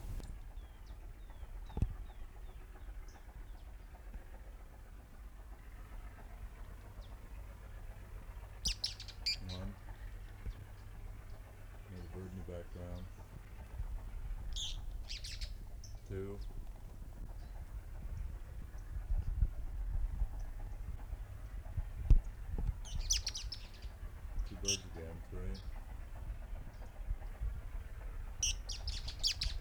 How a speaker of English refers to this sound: Several birds there. Three birds singing at one time.